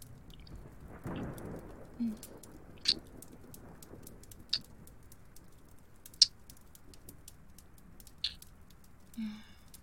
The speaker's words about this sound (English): With the storm outside, you won't be leaving anytime soon.